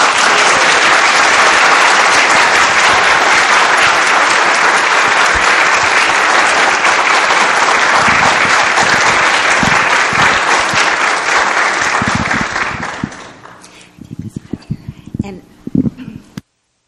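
A crowd claps steadily in a dense, loud wash of applause that holds for about thirteen seconds, then thins into a few scattered claps before stopping.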